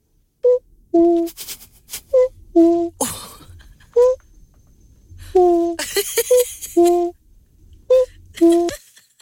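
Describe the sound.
A young listener imitates a cuckoo, repeating two-note "coo-coo" calls in a steady series of pairs, clear, with a few breathy bursts between them.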